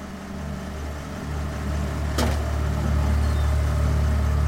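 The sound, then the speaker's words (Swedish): Steady low rumble of a car driving through western Sweden toward Stockholm, heard from inside the cabin, with constant road and engine drone and a brief whooshing swell partway through, like something passing by. “Emily sitter i en bil med sin mamma som skjutsar upp henne till Stockholm, medan Västsverige flyger förbi utanför fönstren.”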